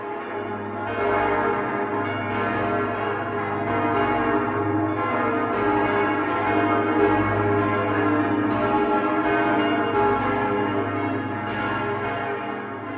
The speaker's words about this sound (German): Das sechsstimmige Geläute des Doms unserer lieben Frau zu Augsburg, das gerade erklingt